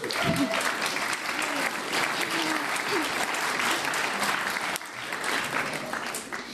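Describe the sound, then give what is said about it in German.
An audience applauds steadily for several seconds, a dense, even wash of clapping that dips slightly in loudness near the end and then carries on. “Applaus.”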